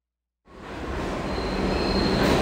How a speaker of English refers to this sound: There. I'm on the number 2 train headed uptown right now.